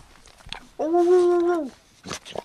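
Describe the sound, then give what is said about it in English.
A dog, asked to sing, lets out a single sustained, tuneful vocalization, fairly loud, holding a steady pitch for nearly a second, with faint soft noises before and after. “Say, he sounds happy about being the inspiration.”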